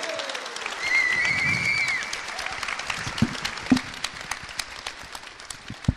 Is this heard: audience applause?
yes